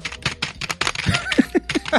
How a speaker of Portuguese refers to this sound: Porra, é assustador o barulho do teclado. É horrível.